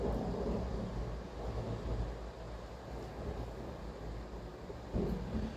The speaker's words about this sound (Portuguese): Não sei se está dando para ouvir, mas está caindo uma chuva. Tem um barulhinho de chuva aqui onde eu tô, que é bom, que a chuva é o repelente natural da moto.